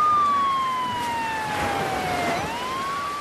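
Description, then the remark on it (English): An ambulance siren wails loudly and steadily, its pitch sliding gradually downward as it passes, then rising again at the end, with road noise beneath and no talking. “Don't worry, I'll call for an ambulance.”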